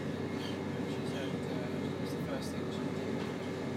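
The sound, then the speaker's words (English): A steady, continuous rumble and airy hiss fill a carriage of a modern moving train, unchanging in level throughout, with faint indistinct voices murmuring underneath. “Do you think there would be toilets on this train? It's quite a modern one, isn't it?”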